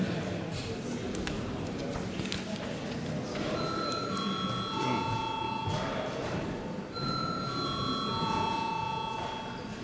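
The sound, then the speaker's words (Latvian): A parliament voting bell, rung at the chair's request before a vote on a bill amending the law on state probation supervision, sounds as a series of steady, ringing chime tones that begin a few seconds in and continue to the end, over a constant murmur of voices and shuffling. “Paldies, lūdzu zvanu.”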